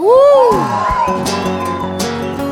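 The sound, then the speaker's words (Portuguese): A loud, high whoop rises and falls at the start, then a crowd keeps cheering and shouting together, a dense, lively wall of voices lasting a couple of seconds. “Quem gostou, dá um gritinho aí.”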